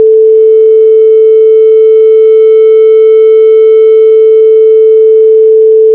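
A steady, unbroken telephone tone hums at constant pitch for several seconds while dialing a cell phone, loud, with no voices or other sounds.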